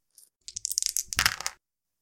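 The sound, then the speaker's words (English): A d100 die, rolled for a skill, rattles and clatters across a hard surface for about a second, with a quick flurry of sharp clicks and bounces before settling. No one speaks. “If you want, do you got any dice on you? Oh, of course. The old dice bag.”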